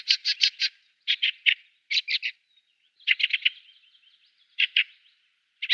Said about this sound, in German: Also die Wacholderdrossel ist auch eine der wenigen, die ich sofort erkenne. Ja, ist so der Winter. Beim Ruf. So eine schöne Winterdrossel. Auch sehr große Drossel. Die macht so ein schackerndes Tschack-Tschack.